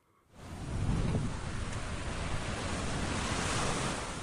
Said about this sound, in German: An der Playa de Palma, also dem Strand von Palma de Mallorca, scheint am Abend auf den ersten Blick alles normal zu sein. Die Wellen rollen sanft und stetig an Land. Urlauber erwarten den Sonnenuntergang.